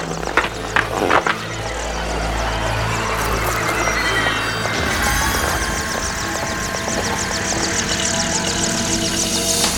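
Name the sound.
helicopter approaching and landing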